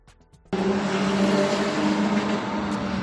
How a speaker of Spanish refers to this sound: Y vecinos de Los Rosales denuncian la presencia de un coche ayer mismo. Este era el sonido, que circula a toda velocidad por sus calles, haciendo trompos y girando en las rotondas, cantando las ruedas.